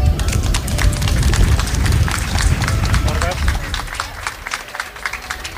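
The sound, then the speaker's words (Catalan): A crowd in the town of Begur breaks into warm, sustained applause, an ovation welcoming a merchant returning to live there, dense clapping for several seconds before easing slightly toward the end, with some voices mixed underneath. “Dediquem-li una calorosa ovació.”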